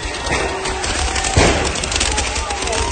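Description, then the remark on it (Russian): Rapid bursts of powerful handheld fireworks crackle and pop like machine-gun fire, with one loud blast standing out amid a dense, noisy wash of continuous sound. The fireworks are fired from a rig at police in Tbilisi. “Это чуваки сделали такую установку, что они как из пулемета, из этих фейерверков, но такие фейерверки, которые очень мощные, с ручками, со всей фигней, и они как из пулемета стреляют в полицию вот из этого всего.”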